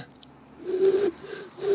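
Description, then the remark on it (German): A person imitates an eagle-owl's hoot: one breathy, low, hollow call followed by a couple of shorter, airy attempts, with noticeable breath noise and no speech. “Ah, warte, du wolltest den Uhu hören.”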